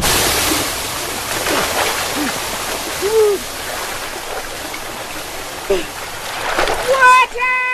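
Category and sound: nature, spring water flowing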